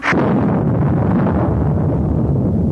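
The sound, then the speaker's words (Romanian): A sudden sharp thunderclap in winter bursts out, then rolls into a loud, deep rumble that keeps growling steadily for a few seconds, with no voices over it. “Ce-i asta, tunet iarna?”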